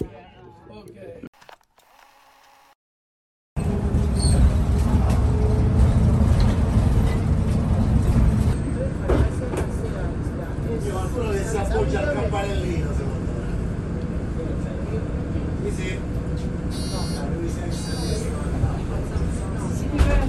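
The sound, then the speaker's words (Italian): Inside a moving city bus travelling to Fiesole, a small town in Tuscany, Italy, a steady, loud engine rumble fills the cabin, with faint muffled voices and brief high brake squeals near the end, after a short quiet start. “Lo avete intuito? La nostra destinazione di oggi in autobus è Fiesole.”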